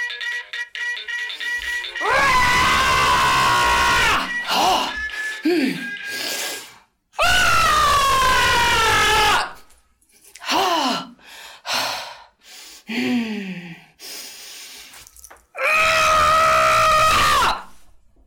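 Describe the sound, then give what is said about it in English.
A person screams loudly three times, each scream lasting a couple of seconds, with shorter gasping cries and breaths in between. “If the problem still consists, let somebody else scream.”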